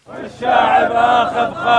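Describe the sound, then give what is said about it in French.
A crowd of protesters in Amman shouts slogans hostile to a government in place for only four months, a loud, dense wall of many voices rising in a rhythmic chant that holds steady for a couple of seconds. “Il crie des slogans hostiles au gouvernement en place depuis 4 mois seulement.”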